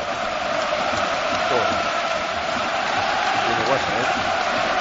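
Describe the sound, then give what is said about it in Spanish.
A huge football stadium crowd of about 80,000 roars in the Allianz Arena before a match, a dense, unbroken wall of noise with swells of chanting voices rising and falling through the steady din for the whole stretch. “Escucha cómo ruge el Allianz Arena.”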